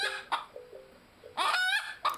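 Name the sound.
chickens clucking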